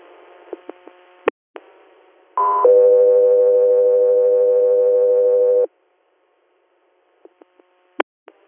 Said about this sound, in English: Air, stand by for tones.